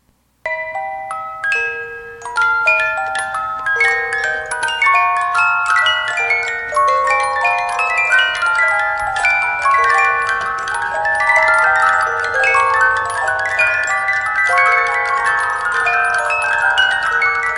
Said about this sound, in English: You're in a graveyard and you notice a mausoleum and you step inside and you notice that each shelf, drawer, mausoleum hole is attended by a music box. And as you step in, the door closes behind you and all the music boxes open at once.